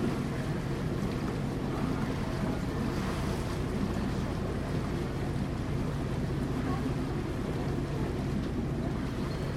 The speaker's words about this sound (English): So, yeah, so the boat's turning now, and okay. I thought it might be. We'll head back upstream.